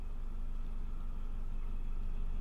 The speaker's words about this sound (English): Oh, look, a little boat going past.